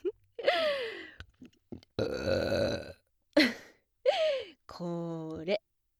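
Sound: loud burp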